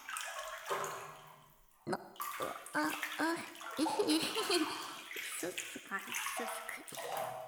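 splashing water

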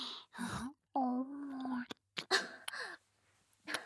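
coughing fit

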